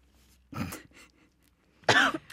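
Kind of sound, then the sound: human body sound, coughing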